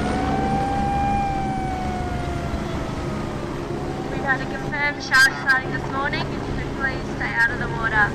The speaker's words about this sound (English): Alerted by the shark alarm, the surfers are quick to paddle out of the water.